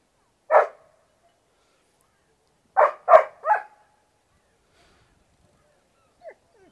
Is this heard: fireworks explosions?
no